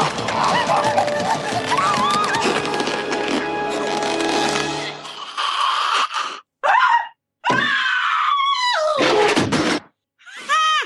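A dense, noisy stretch gives way to several short, loud, strained scream bursts with harsh, wavering pitch, separated by brief silences and close to the listener.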